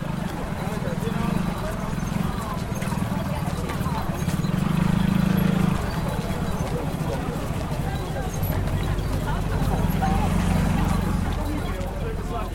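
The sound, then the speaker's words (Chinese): Many people on a pilgrimage following the goddess Mazu walk quickly together, their rapid footsteps forming a dense, continuous patter, with a steady low hum and indistinct crowd voices underneath. “你可以仔细听，你应该听得到大家的脚步声都非常的快速。”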